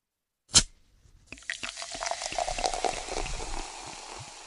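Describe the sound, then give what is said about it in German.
A sharp pop or click, then a steady fizzing pour of beer into glasses, bubbling and crackling with small drips for several seconds, with no one talking. “Ich trinke am liebsten ein großes Bier. Alles klar, dann hole ich uns mal 3.”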